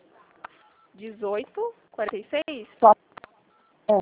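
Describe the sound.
Short, steady telephone keypad tones sound faintly together with a voice speaking over a phone line, the beeps partly buried under the talking.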